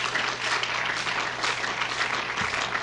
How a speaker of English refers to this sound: Now, let's give the Lord a great hand clap. Praise the Lord. Thank you, Jesus.